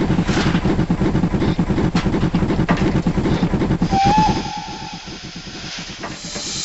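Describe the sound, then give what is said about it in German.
A steam locomotive with huge driving wheels, pulling a passenger train bound for Regensburg, hisses loudly with broad, chuffing bursts of steam, then a brief high whistle sounds before the hiss settles to a softer, steady rush. “Ist das nicht eine elegante Lok? Alles wie aus einem Guss. Und diese riesigen Treibräder.”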